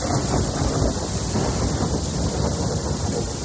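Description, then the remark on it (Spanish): A thunderstorm in Madrid, Spain, with heavy rain pouring down in a dense, steady roar, backed by a deep continuous rumble, loud throughout with no voices. “La borrasca Daniel empieza a dejarse notar en nuestra comunidad. Estamos en alerta amarilla por lluvia y por viento.”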